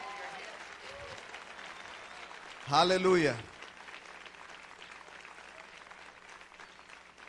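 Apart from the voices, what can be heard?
audience applauding loudly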